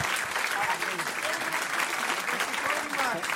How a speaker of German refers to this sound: Und dann ein großer Applaus für unseren Hund.